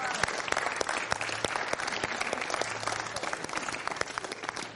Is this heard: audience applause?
yes